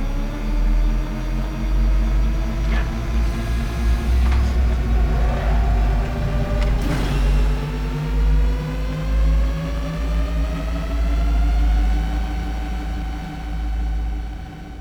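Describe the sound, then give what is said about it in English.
A self-steering ship's engine roars loudly and steadily as it goes very fast, its droning hum climbing in pitch as it speeds up, with a few sharp whooshing bursts near the middle. No one speaks. “The ship does it all.”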